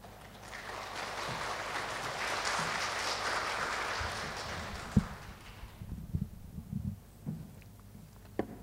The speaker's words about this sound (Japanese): 拍手でお迎えいたしましょうか。